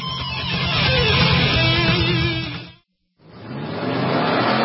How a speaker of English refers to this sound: The 57th running of America's legendary sports car endurance classic runs Saturday, March 21st at Sebring International Raceway. The Mobile One 12 Hours of Sebring, presented by Fresh from Florida, features the fastest race cars in the world.